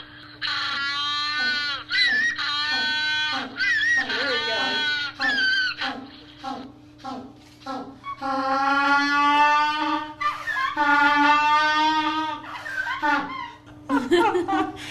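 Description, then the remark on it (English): African penguins braying in a loud, donkey-like series: choppy nasal bursts at first, then longer sustained, strained honks rising and falling in pitch, with no talking over them. “That's what African penguins sound like.”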